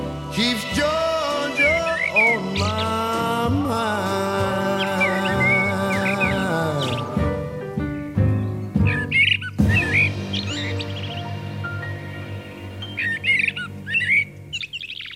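A Swedish Eurasian blackbird sings fluting, warbling phrases in short bursts, mixed over slow, swelling music; the bird's clear notes come through repeatedly above the instruments. A classic recording by an artist.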